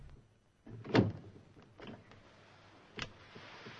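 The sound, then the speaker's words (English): Drawing-room double doors swing open slowly with a dull thud followed by faint creaking, then a second, lighter knock a couple of seconds later. Fairly quiet, with no voices. “They open slowly and Clouseau rolls backwards onto the floor”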